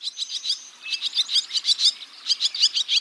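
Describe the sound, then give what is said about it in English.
Barn swallows twitter in a busy, continuous stream of quick, high chirps and warbles, several birds overlapping with no talking. “Well, in a single summer day, the barn swallow, like the ones we're hearing, consumes about 850 insects.”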